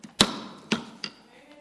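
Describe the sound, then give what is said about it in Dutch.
A gavel strikes a wooden table three times in quick succession during a vote in a meeting, sharp, with the first blow loudest and the later ones softer, each followed by a brief ringing decay. “Hij hamer sneller, ja.”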